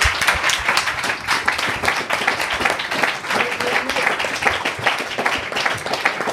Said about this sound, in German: dass die wirklich die Organisatoren so im Hintergrund nochmal einen richtigen, kräftigen Applaus bekommen. Vielen Dank.